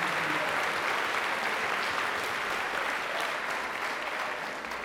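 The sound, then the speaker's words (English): An audience at a California public school district event claps steadily for district staff, a dense wash of many hands that holds at an even, fairly loud level for about five seconds before easing slightly at the end, with no voices breaking through. “So please, if you will, join me with applause”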